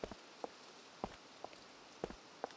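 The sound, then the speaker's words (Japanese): Rain patters on a surface, scattered drops landing in an irregular rhythm over a soft hiss, quiet and unhurried with no voices. “あ、雨のいいところもう一つあった。”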